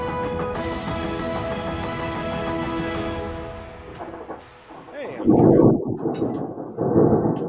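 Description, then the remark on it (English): Sustained tonal music fades out, then two loud, deep rumbling rolls of thunder from a thunderstorm with rain follow, each lasting about a second, heavy with low booming energy. “I'm listening to thunder.”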